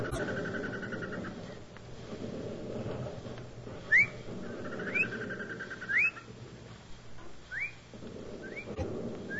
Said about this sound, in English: Hey! What was that, a Jap signal? Nah. It's one of them birds, mating. Yeah? They sure timed their mating well.